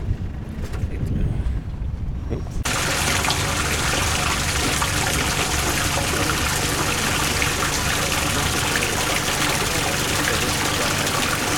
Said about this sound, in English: you want to open the tank up? We'll get some water in there, and we're pretty much ready to go.